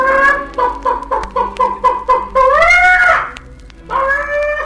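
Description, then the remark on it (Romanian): A hen cackles loudly as it jumps off its nest after sitting on it, a quick run of sharp repeated clucks building into a long drawn-out squawk, then a pause and another rising cackle. “Găina sare peste poartă, trece iute pe lângă babă, se pune pe cuibar și după vreun ceas de ședere sare de pe cuibar cotcodăcind.”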